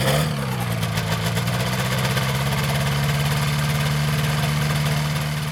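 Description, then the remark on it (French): A small ultralight (ULM) aircraft engine idles steadily as it warms up before a flight at the Champs-Sèvres site in Montceau-sur-Dordogne, a continuous buzzing drone with a low rumble and faint vibration, holding an even pitch after a brief rise at the start. “On va pouvoir faire chauffer le moteur et ensuite y aller.”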